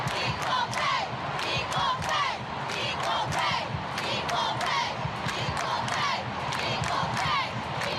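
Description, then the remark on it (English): A large stadium crowd at the cup finals chants "Equal pay!" in unison in support of the women's team, a loud, steady two-beat rhythmic call repeated over and over, with sharp claps or beats punctuating each phrase and a dense roar underneath. “Even the crowd at the cup finals showed their support.”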